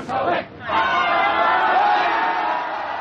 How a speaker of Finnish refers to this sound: Ja nyt saatiin ovi auki ja väki ryntää avonaisesta ovesta sisään.